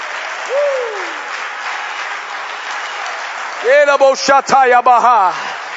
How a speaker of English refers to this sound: Come on, somebody, put your hands together and clap to the Lord right now.